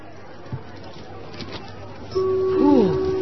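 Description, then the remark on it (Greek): Steady, indistinct crowd chatter murmurs throughout a large, crowded department store where shoppers are after special offers, with no clear words. Near the end a sustained electronic tone with a warbling, gliding pitch rises over the hubbub. “σε ένα μεγάλο εμπορικό κατάστημα με πολύ κόσμο που ενδιαφέρεται για ειδικές προσφορές.”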